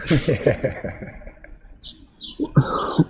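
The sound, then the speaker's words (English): Short, bright bird chirps ring out close by in a quick run of calls, mixed in with people talking and some low, murmuring vocal sounds. “birds just come hang out.”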